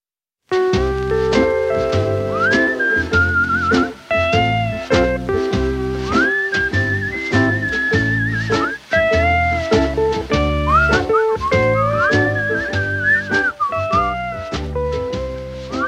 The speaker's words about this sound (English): You know, I've always claimed that if you put whistling in a song, that song will be a super hit.